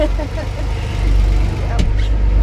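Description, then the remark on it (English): A fishing boat's engine starts and rumbles in a steady, deep idle, its low drone holding level throughout, with a brief clatter partway through, as the boat is driven out of a harbor. “When it starts. The Frys drive the boat out of the harbor.”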